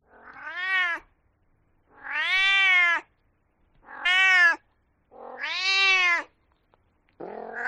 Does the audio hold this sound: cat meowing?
yes